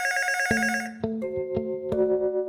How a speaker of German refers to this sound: Und dann klingelt das Telefon.